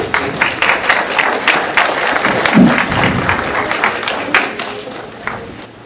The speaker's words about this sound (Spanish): Un aplauso para él.